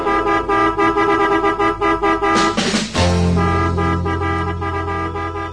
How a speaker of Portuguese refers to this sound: E a buzina desta vez eu sei que vai funcionar.